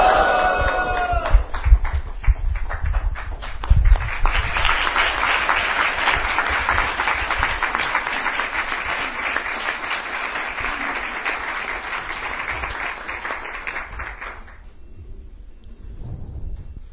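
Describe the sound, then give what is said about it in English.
A crowd of devotees lets out a brief shout together to joyously greet His Holiness Satswarup Maharaj, then bursts into loud, steady applause that carries on for about ten seconds before stopping abruptly. “I would like His Holiness Satswarup Maharaj to first address us on this subject matter, and I would request all of you to joyously greet Maharaj again by shouting with me, Go Premanandi Hari Hari Bol!”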